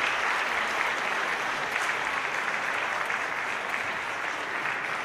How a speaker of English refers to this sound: And let's give them one more round of applause for the awesome job they did. Nice job, kids.